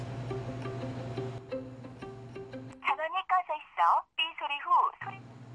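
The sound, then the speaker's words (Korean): A few quick button beeps from a phone being dialed to call a friend, then an electronic ringtone trills in short warbling bursts, fairly loud, over a low steady hum. “일단 내가 전화 한번 해볼게.”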